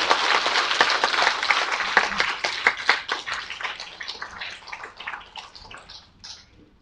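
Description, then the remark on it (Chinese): Audience applause: a dense patter of many hands clapping, strong at first, then thinning into scattered claps as it fades out over several seconds. No one speaks. “咱用即、這个咱上起一个鼓掌哦，来欢迎咱的听落。”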